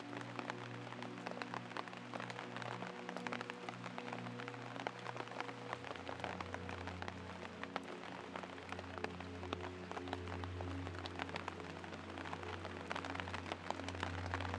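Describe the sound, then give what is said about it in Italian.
Steady rain patters down in a dense, continuous hiss of droplets hitting the ground and the leaves of trees, with a soft sustained low drone humming beneath it throughout. “Senti la freschezza dell'aria mentre la pioggia bagna la terra, il tuo viso, il tuo corpo.”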